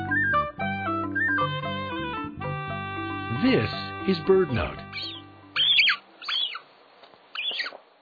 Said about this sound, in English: We're hearing the call of a hungry young gull, tagging along as its parent scavenges the beach for tidbits.